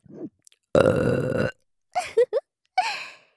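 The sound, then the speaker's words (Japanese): A single loud, drawn-out burp lasting under a second, followed by a few short, breathy vocal sounds from the same person. “上手にしこしこできたらご褒美ゲップが待ってます。”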